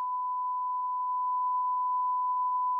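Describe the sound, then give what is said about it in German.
A steady censor bleep, a single pure tone held at even loudness for about three seconds, covering a word with no speech audible around it. “Wir piepen das raus.”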